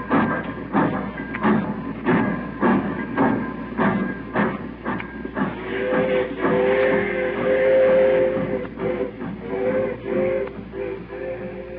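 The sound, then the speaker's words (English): A steam train pulls out of a station with steady, rhythmic chuffing that grows busier, joined midway by a sustained whistle-like tone over a rumbling mechanical background, fairly loud. “When that train went, I busted out and cried like a kid.”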